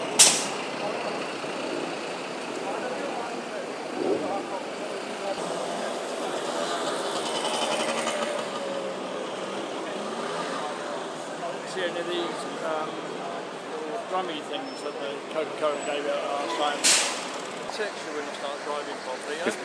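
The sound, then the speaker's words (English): A steady, broad roar of a British Airways airliner bringing in athletes, passing overhead in Richmond, fills the whole stretch, loud and continuous, with a brief sharp hiss near the end and muffled voices mixed into the noise. “There's British Airways bringing in a few more athletes.”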